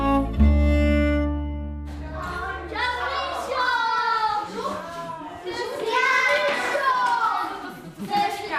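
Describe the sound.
A sustained tone opens, then a group of children chatter and play at a charity in Mojžíř, their high voices overlapping loudly, with what may be a few hand claps mixed in.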